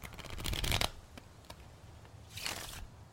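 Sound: shuffling tarot cards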